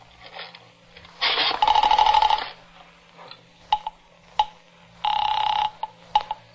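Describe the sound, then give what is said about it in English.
A telephone handset is lifted with a clatter to call the police, followed by a steady buzzing tone, several sharp dialing clicks, then another burst of tone, all fairly loud with no talking. “I reached for the phone.”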